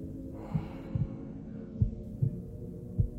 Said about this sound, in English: Lay your head on my breast. Listen to your mother's heartbeat.